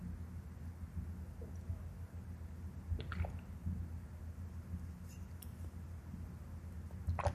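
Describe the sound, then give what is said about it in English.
Quiet sipping from a glass of water, with a few soft slurps and swallows around the middle against a low background hum; no one speaks. “I think I'm going to hide behind a glass of water.”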